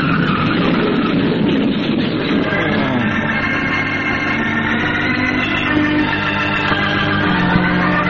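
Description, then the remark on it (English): A car roars as its tires screech and skid in a long, sliding squeal before it crashes into a ditch, with heavy rumbling engine and road noise filling the whole stretch. “Nothing like lying in a ditch with a car twisted around you, I always say.”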